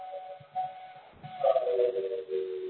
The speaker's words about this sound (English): There's a whistle going on, so hold on a second.